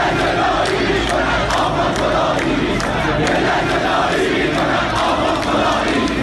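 crowd, protest crowd chanting slogans

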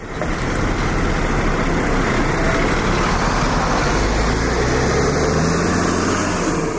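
vehicle, bus engine idling

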